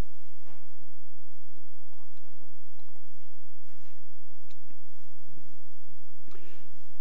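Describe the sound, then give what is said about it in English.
A coughing fit from a person diagnosed with the 100-day cough: several harsh, raspy coughs come in irregular bursts over a few seconds, moderately loud, with no talking in between. “I beg your indulgence. I've been diagnosed with what they call the 100-day cough, and I've got 94 more days to go.”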